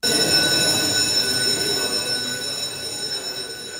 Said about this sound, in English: So we have actually kind of a quick fun fact to kick off today's segment, because we don't usually hear this, but when Parliament is in session, there is a bell that rings at 10 a.m. each morning to signal the start of the sitting.